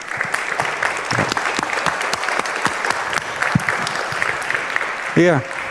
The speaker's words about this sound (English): And give a warm round of applause